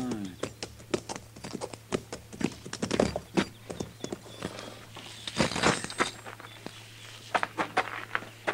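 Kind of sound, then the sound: animal, horses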